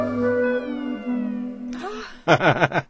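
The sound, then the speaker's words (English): A sustained synthetic tone in a piece of music gives way near the end to a burst of repeated, bending cat-like meows, loud, sounding electronic rather than from a real animal. “But listen, right at the end to the electronic and see if that's not a little meow.”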